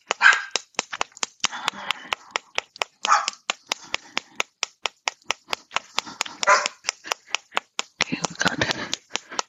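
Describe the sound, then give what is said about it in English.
Two puppies play-fighting indoors, with short yips and barks over a steady patter of rapid clicks and scuffles, like claws on a hard floor, continuing through the whole stretch. “Puppy fights in here going on, so if they continue, I'll kick them both out.”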